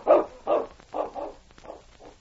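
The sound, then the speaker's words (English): King, Sergeant Preston's big dog, barks about six times in a steady, fairly rapid series, the deep woofs starting loud and growing gradually softer, with no voices present. “I don't like the way that big dog keeps watching us.”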